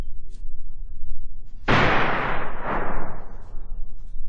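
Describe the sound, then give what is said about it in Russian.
A single gunshot, fired by someone in a forest, cracks sharply, then rolls away in a long echoing reverberation, with a quiet low background before and after. “Но все-таки в лесу кто-то выстрелил.”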